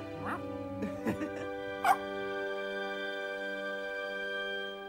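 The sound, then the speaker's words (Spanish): A few short, high-pitched yips and whimpers from a small puppy held in a child's hands, spaced irregularly over the first two seconds, set against a steady sustained musical tone that continues to the end. “El niño toma al cachorro en sus manos.”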